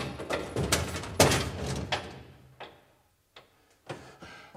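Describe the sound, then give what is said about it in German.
A door thuds shut with a heavy knock, then a few sharp metallic clicks follow, like a key turning in the lock, with no voices. “Ich verlange, dass Sie sofort die Tür öffnen!”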